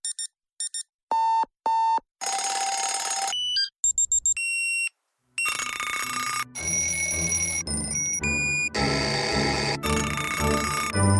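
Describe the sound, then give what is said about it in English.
Alarm clocks going off: short electronic beeps and chirps at first, then loud, insistent ringing and clanging bells that build into a dense, continuous jangle, with no voices. “Make sure your child is up with the alarm and ready for school each morning”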